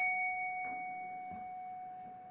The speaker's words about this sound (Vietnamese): Phải là cái chuông rồi cái dùi này đánh nó mới ra.